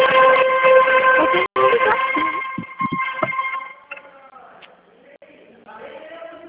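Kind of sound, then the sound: signal or alarm, horn honking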